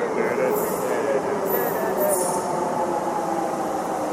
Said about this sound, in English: Train. Here comes the train.